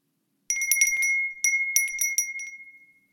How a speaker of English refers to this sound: The stupid fucking bell on Ed's collar echoes around the barren cabin as he squirms.